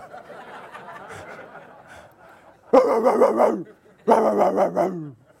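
A pit bull mix dog lets out two loud, drawn-out, rough barks, each lasting under a second, after a stretch of quieter harmonic murmuring in the background.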